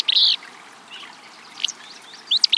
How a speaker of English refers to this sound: and we hear what sounds like a sneeze in a dense thicket. Should we reach for binoculars? Or maybe a handkerchief? This sneezy song belongs to a willow flycatcher, a small gray-green bird singing from atop a nearby shrub.